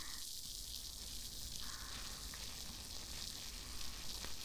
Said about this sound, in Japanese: シュワシュワー、パチパチー。耳元で炭酸の泡が弾けてるの、わかりますか？この音を聞いてるだけで気分がすっきりしてきません？